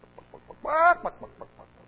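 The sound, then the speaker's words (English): A chicken clucks in short, evenly spaced clucks, breaking into one louder, drawn-out squawk midway before returning to soft clucking. No one speaks. “Chicken, just the same old dumb sound.”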